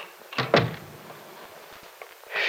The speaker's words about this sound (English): Hey, I guess maybe I ought to close the door, too, huh?